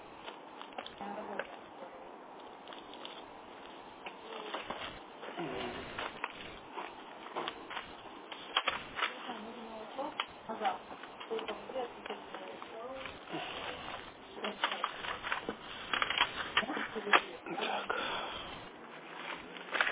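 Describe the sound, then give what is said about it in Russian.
Continuous crackly rustling and shuffling of a pile of papers being sorted through while searching for signed documents, with irregular sharp bursts and faint voices in the background. “Попытаюсь найти их. Все, куча бумаг.”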